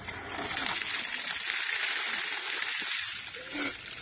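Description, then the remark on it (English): A five-gallon bucket of ice and ice water is dumped in one heavy, continuous splashing gush lasting a few seconds, fairly loud, then trailing off into drips and a brief slosh. “That's like a five-gallon bucket of ice and ice water.”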